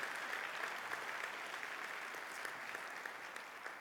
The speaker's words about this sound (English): Let's give them another round of applause, if we could, please.